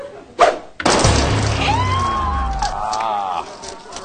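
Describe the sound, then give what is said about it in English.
A game show whammy sound effect for an M&M's whammy that knocks a contestant out of the first round: a short burst, then a loud crashing smash with falling, sliding tones, ending in a warbling, wobbly tune about four seconds in. “The tasty M&M whammy knocked you out of this first round,”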